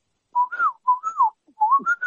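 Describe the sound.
A caller on a Skype line whistles a bird call in three short, rising-and-falling phrases around a clear mid-high pitch, each phrase a warbling two-part swoop, imitating birdsong.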